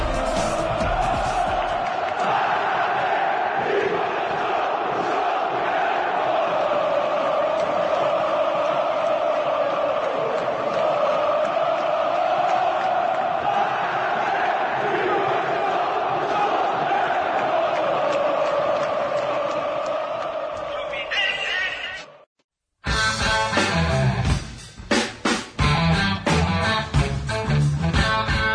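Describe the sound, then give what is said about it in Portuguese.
A huge stadium crowd of Fluminense football fans roars and chants continuously as Fluminense wins its fourth Brazilian football championship, a loud sustained wall of cheering voices for about twenty seconds, then a brief silence before a different loud, busy sound cuts in. “Torcida Tricolor.”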